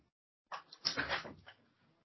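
A door is pulled open to answer it, with a short burst of clattering and rattling lasting about a second, moderately loud, then fading to quiet rustling.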